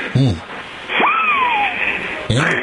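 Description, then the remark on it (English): A kazoo imitates 4th of July fireworks: a short buzzy chirp, then a sharp rising buzz that glides slowly down in pitch like a falling rocket, and a final brief burst. “4th of July fireworks from my kazoo.”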